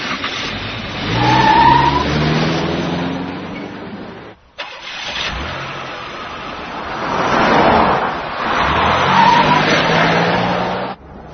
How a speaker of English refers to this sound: Okay, guys, we're rolling. She's in the town car heading west.